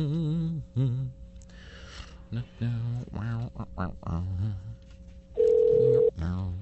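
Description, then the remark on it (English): People talk while a faint steady phone tone hums underneath, then a single loud telephone ring-out tone sounds for under a second near the end, like a call being placed. “I think I've got his telephone number.”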